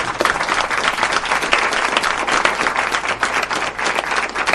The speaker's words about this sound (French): Si cette émission nous a plu, nous allons faire un banc d'applaudissements qui va réveiller les morts qui dorment à la morgue d'Anehor.